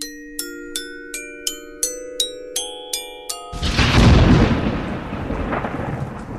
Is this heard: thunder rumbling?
yes